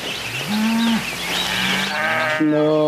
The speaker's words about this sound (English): No. I found out that when cows moo, it's not necessarily a good thing. It means they're kind of like stressed. So a mooing cow is not what you want to hear.